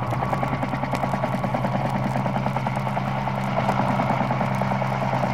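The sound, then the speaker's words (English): The Scarecrow's getaway helicopter in a Batman radio drama: a loud low droning engine hum overlaid with rapid, even rotor pulses that continue unchanged throughout, with no voices. “But our helicopter is waiting.”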